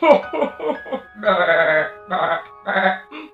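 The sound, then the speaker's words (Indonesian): A voice imitates a goat laughing: a quick run of short, wavering bleats followed by three longer, drawn-out ones, fairly loud. “Kambing itu juga tertawa.”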